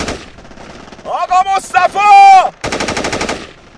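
Heavy battle gunfire from Iraqi troops advancing up a hill: rough noisy blasts give way to strained, shouting-like tonal cries, then a long, loud rattle of rapid automatic bursts fires in quick, even succession.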